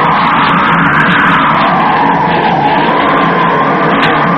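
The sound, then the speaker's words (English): Storm wind on an island howls in a loud, unbroken roar, its whistling tone slowly rising and falling over a dense rush of noise, with no voices. “Listen to that wind.”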